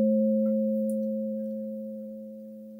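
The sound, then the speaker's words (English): A singing bowl rings with a steady, pure hum, two clear tones layered together, slowly fading over a few seconds with no voices. “Listen to the silence in between words or in between the ringing of the bowls.”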